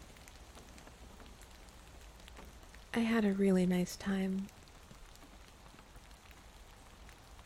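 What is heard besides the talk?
rain falling outside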